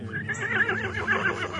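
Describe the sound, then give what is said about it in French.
A horse whinnies loudly, a single wavering, high-pitched neigh lasting over a second with no one speaking. “Un jour, quand il eut une pleine allure d'homme, il fit atteler son cheval en souhaitant galoper hors de la cité.”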